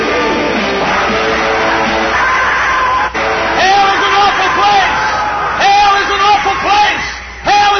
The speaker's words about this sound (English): Look at those teenagers screaming. Look at those young people.